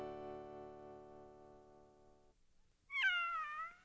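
A single high, thin meow from a little gray kitten rises and then falls, loud, following a long steady musical tone that fades into a brief quiet gap.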